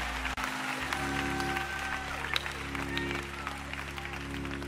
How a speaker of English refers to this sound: Come on, serve and celebrate. Clap your hands for our excellent Lord.